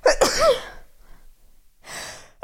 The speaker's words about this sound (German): Oh, ich muss, glaube ich, niesen, Leute.